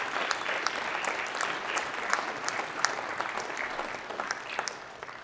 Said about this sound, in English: Come on, if you're thankful for what all God is doing, let's clap and give him the best praise we can right now.